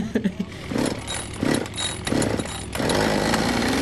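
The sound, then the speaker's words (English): A Husqvarna 550 gas chainsaw, a medium-sized saw, revs in several uneven bursts, then settles into a loud, steady high-pitched whine at full throttle for the last second. “This is a 550, Husky 550. It's a nice little medium-sized ground saw.”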